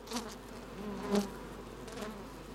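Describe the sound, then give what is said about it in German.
A steady insect buzzing hums, with a few louder swells as Saxon wasps move around, no voices, just the continuous drone of Saxon wasps at their nest. “Da haben wir zum Beispiel nur so ein Nestle, das ist jetzt so sächsische Wespe, nennt man die.”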